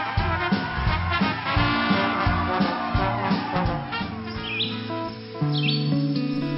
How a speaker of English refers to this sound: you ever, like, go for a walk on a beautiful spring day like this one, when the birds are singing in the clear blue sky and the blossoms adorn the trees in a beautiful blush veil?